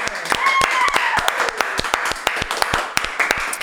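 Audience applause: a dense, uneven stream of sharp hand claps lasting several seconds, with a few high cheers or whoops mixed in near the start.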